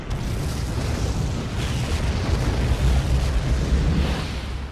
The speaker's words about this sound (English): Surprisingly small explosion. A powerful explosive. Well, may have shot several miles up. Still a surprisingly small explosion. Goes on for a long time, though, I'll give it that.